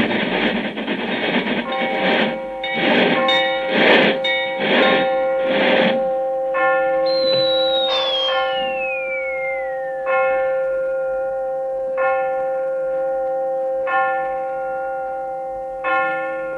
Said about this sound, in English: Six hours and 20 minutes later, we are in London. As we enter the station, the clocks are striking.